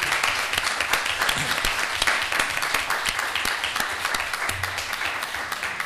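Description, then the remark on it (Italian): Steady audience applause given as a shared good wish in place of a hug because of Covid, a dense patter of many hands clapping at an even loudness for the whole six seconds, with no voices rising above it. “Ecco, e quindi il nostro vuole essere veramente un augurio da parte di tutti, ti abbracciamo tutti simbolicamente, non possiamo farlo fisicamente per via del Covid, però un applauso te lo possiamo fare.”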